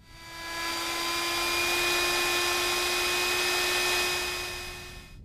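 A steady, loud rush of natural distillate streaming out through a nozzle into the open hisses, swelling in over the first half-second, holding evenly with faint whistling tones inside it, then tapering off at the end.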